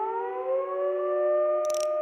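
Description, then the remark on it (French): A fire station siren wails loudly and steadily, its sustained rising tone holding strong throughout, with a brief higher-pitched burst near the end. “La sirène des pompiers s'est mise à hurler très fort pour la prouver.”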